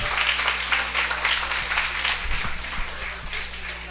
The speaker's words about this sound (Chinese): 有十分钟问答，大家做得很好，谢谢，给自己鼓掌一下。